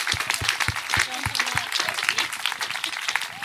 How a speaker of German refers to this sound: Dafür brauchst du einen Applaus.